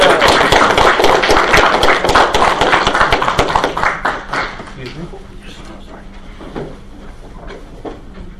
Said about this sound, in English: So, first of all, a round of applause.